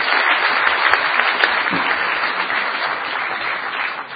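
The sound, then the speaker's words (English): An audience claps steadily for several seconds, a dense, even wash of many hands with no one speaking over it, holding at a fairly constant loudness throughout. “Could I get a round of applause, please, to the Harvard Pi?”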